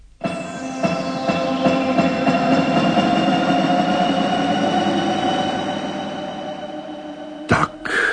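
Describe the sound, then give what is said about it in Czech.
A spaceship's engines roar to life in a loud, steady drone with humming overtones that holds for several seconds, then cuts abruptly with a couple of sharp bursts near the end. No one speaks. “Odpal nás za fode, nebo já toho člověka snad naposled přestanu mít rád. Start.”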